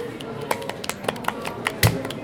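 A short round of light applause: a handful of sharp, irregular claps over a low background murmur, with one louder clap near the end.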